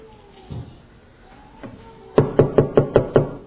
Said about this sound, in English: There was a knock on the window.